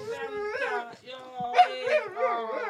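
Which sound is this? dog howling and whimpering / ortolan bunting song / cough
dog howling and whimpering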